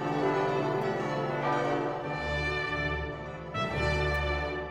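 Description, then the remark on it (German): Church bells peal continuously, their rich overlapping tones ringing loud and full, with fresh strikes renewing the sound every second or so. No voices are heard. “Von dort begab man sich unter Glockengeläut, manchmal unter dem Klang von Trompeten und Posaunen in die Kirche.”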